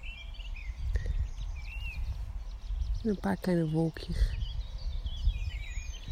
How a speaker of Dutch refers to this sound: Goedemorgen vanuit het bos. Het is weer een prachtige dag. Ik zit tegen een boompje geleund. De zon die schijnt. Ik denk dat je de vogels die zo hoort om me heen.